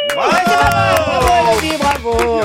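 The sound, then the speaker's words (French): A woman outdoors screams very loudly as a contest challenge, in one long, high-pitched, wavering cry that barely breaks for breath, with bursts of crowd noise around it. “Non, je veux que tu hurles.”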